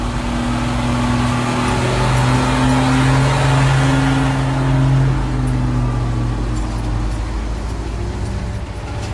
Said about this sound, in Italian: I camion si fermano nei pressi di alcuni capannoni, accanto ai binari dove sosta un lungo treno merci.